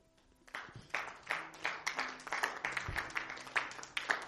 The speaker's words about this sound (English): Clap your hands.